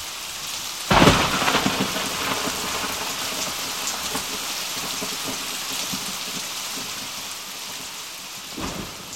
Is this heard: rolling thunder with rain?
yes